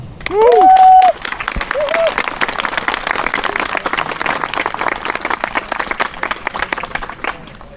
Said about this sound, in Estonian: Ja on olemas aktiivsed inimesed, kes siis selle kokkutuleku on korraldanud. Ma arvan, et need inimesed väärivad meie poolt ühte suurt aplausi.